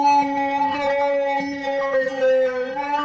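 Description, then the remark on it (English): A processed sound effect, slowed down in tempo, with reverb and flange added: a loud, sustained howl-like tone holding a steady mid pitch with rich buzzy overtones and a slight wavering shimmer, lasting about three seconds without talk. “Then you've got to add a little bit of reverb and my old favorite flange.”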